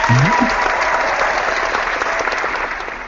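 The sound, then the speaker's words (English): Loud, steady applause for the release of Marvel's Avengers: Age of Ultron Trailer 3, with dense clapping across the whole clip, tapering only slightly toward the end, with a brief vocal sound at the very start. “I'm sorry to step all over that, but, you know, it had to be applauded.”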